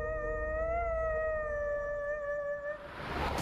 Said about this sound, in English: Wolf-like creatures have been spotted on the streets of Manhattan, sparking a major police chase. A full moon. Howls are haunting the night of one of the busiest cities on Earth.